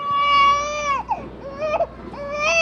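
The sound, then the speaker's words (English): A recording of an infant's cry, used in a sound-making machine: a sustained, high-pitched wail that breaks into shorter, wavering sobs and rises again. The crying is loud and continuous with no other voices. “Like, there's a machine over there that has your firstborn child's cry.”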